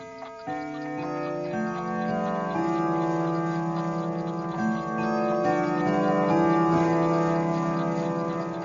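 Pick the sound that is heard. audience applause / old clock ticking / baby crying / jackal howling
old clock ticking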